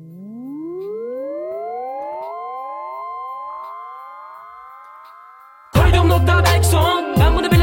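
A rap track opens with layered synth tones sweeping upward for several seconds, then a loud, bass-heavy beat abruptly drops in near the end.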